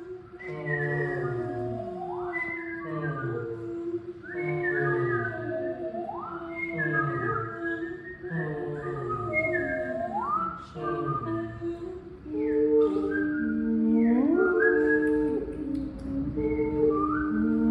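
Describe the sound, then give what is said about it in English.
Singers of the Echo Vocal Ensemble whistle overlapping, birdlike calls imitating birdsong in an improvisation, with repeated upward-sliding notes and chirps, layered in a steady texture. Partway through, the sound shifts toward fuller sung tones and sustained pitches. “The bit you're about to hear starts with birdsong and then moves to voiced song, and you can hear how that develops through this segment.”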